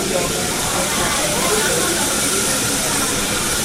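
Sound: train arriving at station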